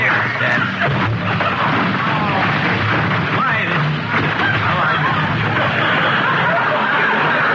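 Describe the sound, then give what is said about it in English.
A loud, sustained avalanche of tightly stacked packages tumbling out of a car's back seat, clattering and thudding continuously for several seconds, with a crowd's murmur and voices faintly underneath. “Don't open that car door because that back seat's package is tighter than... No, don't. Oh, packages are tight.”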